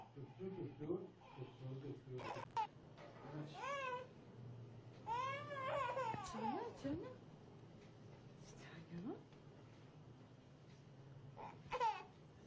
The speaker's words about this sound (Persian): گریه بچه زبانشه، میخواد بگه دلش درد میکنه یا گوشش.